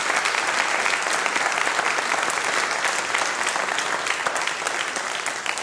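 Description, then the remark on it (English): A crowd of people claps steadily for several seconds for a group of boys, a dense, even patter of applause that stays loud throughout with no talking over it. “So another round of applause for these boys, and then we're going to pray.”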